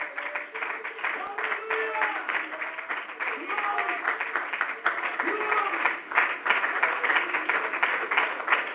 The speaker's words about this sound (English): Church, before you sit down, would you clap your hands one more time unto the Lord?